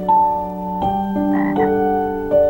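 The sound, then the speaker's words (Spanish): More than ten toads croak together in the morning, their steady, droning trills overlapping in layers, with new voices joining every half second or so. The sound is fairly loud, with no talking. “A la mañana siguiente, más de 10 sapos se juntaron a escuchar su sueño.”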